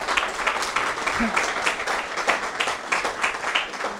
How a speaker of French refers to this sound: Merci à vous, je crois qu'on peut vraiment les applaudir, hein, parce que